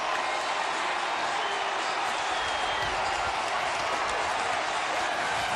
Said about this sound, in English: That is the crowd. How sweet it is. 45,000 fans watching a Jumbotron.